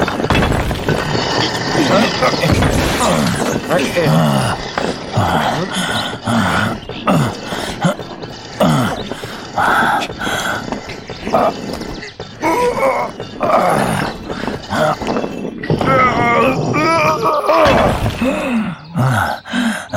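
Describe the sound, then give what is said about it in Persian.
A dog growls in low, rumbling bursts throughout, fairly loud, tangled with groan-like vocal sounds and a busy, dense background; some voices may be mixed in. “این سگه دیگه چی میگه؟”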